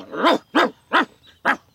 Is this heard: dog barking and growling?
yes